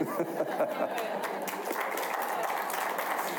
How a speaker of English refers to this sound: Wow, I've never been applauded for a sermon series before. This is awesome.